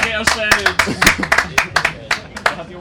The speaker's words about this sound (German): Hier, Applaus, Applaus, Applaus.